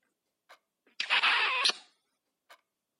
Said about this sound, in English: Here, you can have one squeaky cheek kiss.